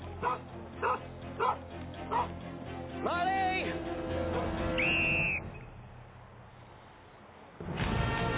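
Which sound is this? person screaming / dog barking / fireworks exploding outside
dog barking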